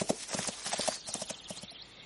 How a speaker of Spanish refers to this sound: Su caballo huye.